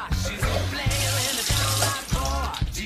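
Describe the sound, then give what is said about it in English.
A tap runs steadily to wash apples, a continuous splashing hiss of water filling a sink, with a rhythmic low-pitched musical pattern pulsing underneath throughout. “Actually, you turned on the tap without turning it off.”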